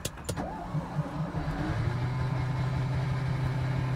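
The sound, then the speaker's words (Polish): The engine of a small car, a maluch, cranks with a few sharp clicks, then catches and settles into a steady, rumbling idle that continues evenly to the end. “Już odpalił?”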